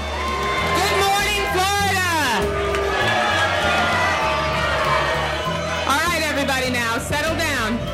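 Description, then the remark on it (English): A large crowd boos Florida representative Debbie Wasserman Schultz at a breakfast for Florida's delegation, loudly and continuously, with rising and falling jeers and shouts swelling in waves over a dense, roaring wall of voices. “The Florida representative was even booed during a breakfast for her state's delegation.”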